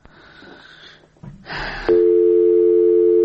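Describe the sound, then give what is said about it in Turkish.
A steady, loud telephone line tone begins partway through and holds without a break as a call fails to connect, following a stretch of faint line noise and a short burst of static. “Telefon xəttində deyil. Zəhmət olmasa təkrar yığardınız.”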